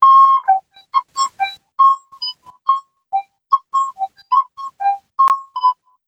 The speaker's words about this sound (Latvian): Līdz ar to pat tādu divu caurumiņu putniņu var četras notas izspēlēt. Tikai divi caurumiņu, bet četras skaņas var dabūt.